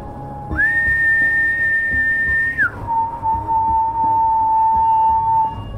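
A thin, eerie whistle holds one high, steady pitch for about two seconds, then drops smoothly to a lower sustained tone that lingers, clear over a faint rumbling background.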